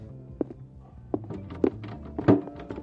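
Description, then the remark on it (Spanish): A locked door is tried, giving four dull, hollow thuds at uneven intervals, each short and fairly loud over a low background rumble, with no voices. “Oiga, esta puerta tiene llave.”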